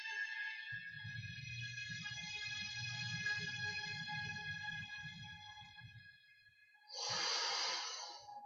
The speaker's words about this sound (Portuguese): Fazendo uma respiração profunda, se conectando, lembrando de se perdoar, para conseguir agradecer de uma maneira mais profunda.